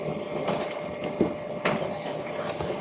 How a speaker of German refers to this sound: Hört sich nach einem Drucker an. Genau. Das hört sich nach einem wirklich sehr lauten Drucker an.